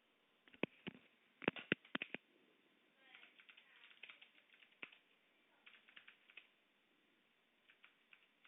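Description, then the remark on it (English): Clicky computer keyboard typing in irregular bursts, sharp key clacks with a few louder strikes early on, then a lighter, quicker patter of keys. No one speaks. “This has a nice clicky keyboard.”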